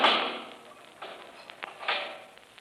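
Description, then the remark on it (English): A heavy steel door slams shut with a sharp metallic crash, followed by a few quieter clanks and rattles as it settles. There is no talking. “You can lock that steel door, Kelvin.”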